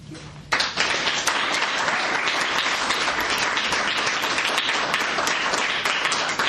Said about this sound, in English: So, thank you. Let's give another round of applause to those final points.